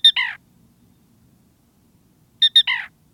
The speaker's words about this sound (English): After dark in the Southwest, at Arizona's Bill Williams River National Wildlife Refuge, a black rail utters its unmistakable call.